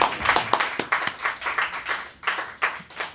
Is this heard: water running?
no